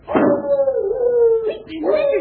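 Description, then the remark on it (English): A dog named Blood lets out a long, wavering howl, then begins another rising howl near the end, barking at somebody. The cries are loud and sustained rather than short, sharp barks. “Boy, he's sure barking at somebody.”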